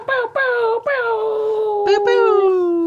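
A dog growls in a series of drawn-out, moaning vocal grumbles, several short bursts followed by one long sliding note, loud and clear with no one talking.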